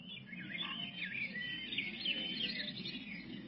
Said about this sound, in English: Picture me then, here, alone, in my garden near the Thames, with 40 years of school teaching behind me, and all around, the songs of birds, the dawn chorus. It's really heavenly. Listen.